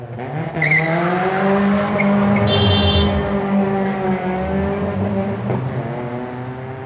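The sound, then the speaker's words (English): A car engine revs hard and steadily for several seconds, its pitch holding then shifting, with a brief high tire squeal from spinning wheels partway through, as a car passes the line of cars in Bebop's car park on Pierce Road. Loud, with no voices. “As you pass the line of cars in Bebop's car park, this is where you rev or wheel spin.”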